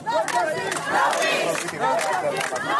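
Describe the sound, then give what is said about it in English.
A crowd of hundreds of protesters in Athens, Greece, chants loudly in unison, the same words as protesters in the U.S., many voices shouting rhythmic phrases together in a dense, sustained roar for a few seconds. “And in Athens, hundreds gathered, chanting the same words as protesters in the U.S.”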